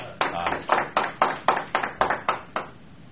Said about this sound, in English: Wow, got an applause.